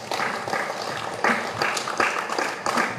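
Several sharp hand claps at irregular intervals, each a crisp, bright slap over a steady hiss of background noise. The claps are moderately loud and no one is speaking.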